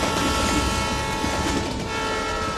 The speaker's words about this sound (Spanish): Fíjate que en el vasto lienzo de la estepa siberiana, donde el horizonte se extiende hasta perderse en la infinidad, se despliega majestuosamente el telón de hierro del transiberiano.